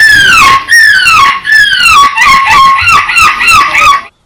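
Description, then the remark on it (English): A 9-year-old British boy imitates a seagull in a squawking championship he won, letting out about eight loud, shrill squawks in quick succession, each sliding downward in pitch, the later ones shorter and more rapid, with no other talk. “A 9-year-old British boy has won the squawking championship of the world by doing the best imitation of a seagull.”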